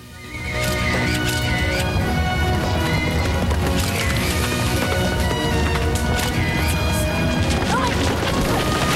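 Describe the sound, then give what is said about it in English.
A herd of horses charges in a loud, dense rush of pounding hooves, raising dust, with whinnies and neighs rising over the thunder and a few sharp crashing knocks. “She captures a brown and white horse in full flight, then waving away the dust, moves closer to the charging pack.”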